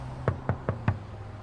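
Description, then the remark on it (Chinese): Four soft, evenly spaced, light knocks on a door in quick succession, over a faint low hum with no voices. “有人轻轻地敲门。”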